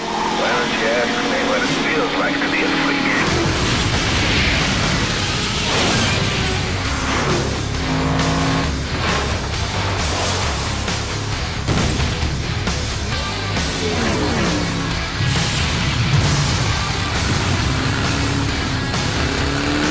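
The opening trailer of the racing video game Flat Out 2, made by Buckbeer Entertainment, at full loudness: roaring car engines and crashing impacts pile into a dense, continuous wall of sound, with a low rumble kicking in after a quieter opening few seconds.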